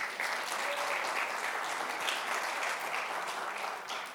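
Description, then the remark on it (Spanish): Steady audience applause, given again on request, fills the whole stretch, a dense wash of many hands clapping at once, fairly loud and continuous without pause or buildup. “y ahora sí démele por favor un aplauso otra vez”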